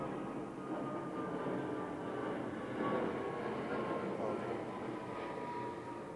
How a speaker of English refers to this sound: I like it when the plane goes over. It's less questions.